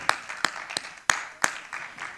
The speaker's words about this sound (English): Praise God. That's something to shout about. Amen. Amen. Worship the Lord with a hand clap. Amen.